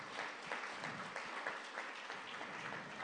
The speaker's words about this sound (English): Awesome. Let's give everyone a round of applause again who spoke tonight.